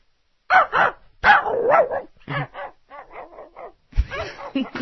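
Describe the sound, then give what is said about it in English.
A comedian in a studio imitates a dog barking, with several rapid runs of yappy barks. The barks are loud and close at first, then a softer, more distant-sounding series follows, before louder barking returns. “My old voice guy, who, before I do his plugs, I always require him to do close-up dog and then faraway dog.”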